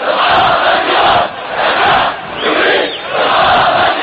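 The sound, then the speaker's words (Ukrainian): At a Sunday funeral in Nawa, north of Daraa, for protesters killed by security forces, a large crowd loudly chants anti-government slogans in unison, including "Long live Syria, down with Bashar". Rhythmic surges of shouting rise and dip every second or so, the voices blending into a dense roar. “У неділю в Наві пройшли похорони протестувальників, вбитих силами безпеки, на яких люди вигукували антиурядові гасла.”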